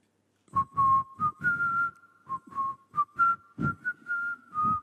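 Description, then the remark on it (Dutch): Someone whistles a slow hymn-like melody outdoors by a bus, sustained notes rising and falling in phrases with short breaths between them, clear against scuffling background noise. “En ik begon te fluiten.”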